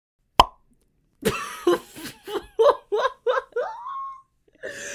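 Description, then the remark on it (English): A single sharp, hollow mouth pop rings out, then a pause, followed by a run of choppy, rhythmic laughter bursts. “Make that sound where you, like, pop your mouth.”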